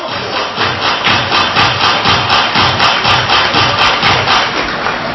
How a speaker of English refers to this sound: Majors crowd trying to get back into it.